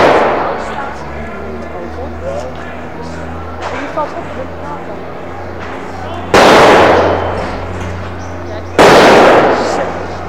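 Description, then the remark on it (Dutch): Two loud strijker firecracker blasts go off a few seconds apart, each a harsh roaring burst lasting over a second, over a steady low engine hum with indistinct voices in the background. “Ja, met die strijkers zo.”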